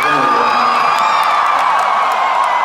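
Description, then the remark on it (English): A loud concert crowd cheers and whoops continuously at the band's request to make some noise, a dense wash of high-pitched yells and shouts rising and falling with no pause, sustained at full volume throughout. “And you guys down to do some crowd participation, make some noise.”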